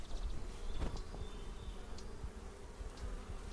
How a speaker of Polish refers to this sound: Gniazdo dzikich pszczół widziałeś? Gniazdo. Co tu zrobiły? Siedzibę.